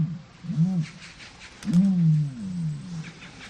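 Two deep, resonant grunting calls from an ostrich, the first short and the second drawn out and booming, fairly loud with no talking.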